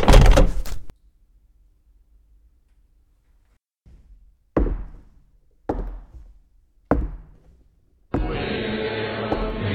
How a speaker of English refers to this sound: Let's just lock the door and get out of here.